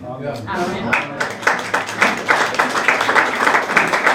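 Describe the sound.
An audience breaks into applause, many hands clapping in a dense, steady patter that stays fairly loud throughout, with a voice heard briefly at the very start.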